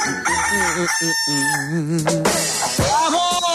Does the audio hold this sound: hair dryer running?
no